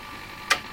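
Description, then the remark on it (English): A zip drive reading a damaged disc gives off sharp mechanical clicks, two in quick succession over a faint steady hiss, with no one speaking. “As soon as you hear that. You know that disc is damaged, and if you put it in another zip drive, it'll break it.”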